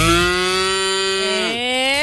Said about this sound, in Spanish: Y de hecho hoy día, ¿sabes qué? Está apareciendo ahí poco a poco los animales de la granja. Hoy día apareció la vaquita, mira.